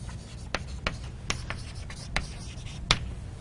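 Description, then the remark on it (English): Scratchy strokes of a pen or pencil on paper as someone writes down a clock arithmetic example, with several short sharp taps and scrapes spaced irregularly over a quiet low hum, no talking. “So I'll write it down.”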